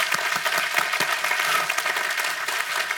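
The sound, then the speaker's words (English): An audience claps steadily for a few seconds during a sermon, at the preacher's call, a dense, crackling wash of many hands with no voices rising above it. “And what's so interesting right now, clap for that, amen.”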